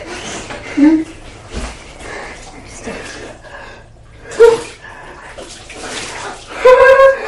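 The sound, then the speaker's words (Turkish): Water splashes and sloshes in a basin in a bathroom as a woman washes a disabled young man seated in it, with irregular bursts of pouring, short gasps and brief vocal sounds scattered throughout. “Kadın engelli genci banyoda bir leğene oturtmuş ve yıkıyor.”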